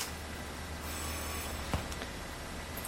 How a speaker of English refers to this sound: Well, I hear a feeble bell, so I'll stop there.